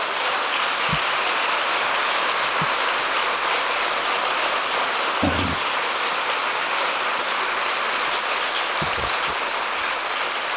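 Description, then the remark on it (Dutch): Sustained audience applause in The Hague, a dense, steady hiss of many hands clapping at an even level, with a few brief low thumps scattered through it and no voices. “En ik wil hier in Den Haag een applaus geven.”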